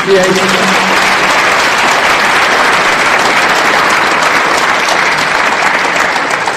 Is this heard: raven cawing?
no